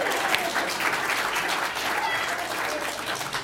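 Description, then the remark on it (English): A round of applause: steady, dense clapping from a crowd, fairly loud and even throughout, with no pauses and no voices standing out. “But anyways, round of applause for pee-pee.”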